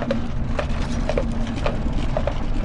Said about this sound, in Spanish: Aquel rudimentario vehículo avanzaba lento para no sacudir mucho el cuerpo. A veces solo era el sonido de sus ruedas de madera y los cascos de los caballos, a veces también el murmullo de la procesión y los cantos de los deudos